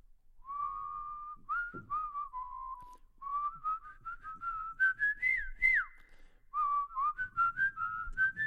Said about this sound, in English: Okay, so it starts with whistling. So if you're whistling at home, all right.